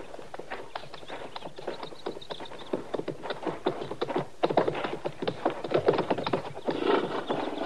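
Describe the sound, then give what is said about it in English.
Horses' hooves clip-clop steadily on hard ground as they are led along, a close, uneven patter of many hoofbeats with a brief whinny-like sound near the end. “All right, Chester, you can bring the horses out now.”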